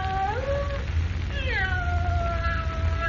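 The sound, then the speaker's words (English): A cat meows plaintively twice, a short wavering cry followed by a longer, drawn-out one, in a musty, dark room, over a low steady rumble with no voices. “With a cat meowing plaintively somewhere in the musty darkness of the room, Jimmy begs Perry White not to call Lois.”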